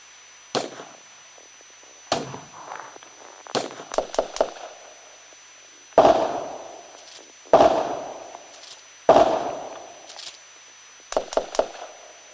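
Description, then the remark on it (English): Gunfire cracks out in sharp, loud bangs with echoing tails, some as single shots and others in quick bursts of two or three, spaced irregularly and with no talking. “Dispatch, I'm hearing gunfire.”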